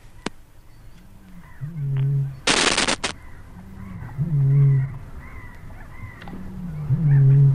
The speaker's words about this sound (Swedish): Ska vi höra lite på rördrom? Mycket här gärna. Så nu kommer mycket rördrom.